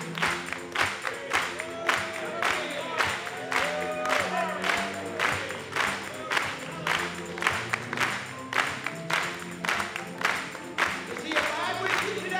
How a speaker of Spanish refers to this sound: Vamos a aplaudirle.